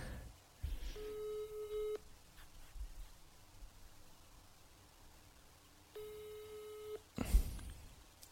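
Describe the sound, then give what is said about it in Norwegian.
An outgoing call's ringback tone sounds twice, each a steady one-second buzzing tone separated by a long pause, fairly clear over a faint background rustle, ending with a brief clatter as the line picks up. “Vi kan ringe bøste for å høre. Ja. Så vi ringer.”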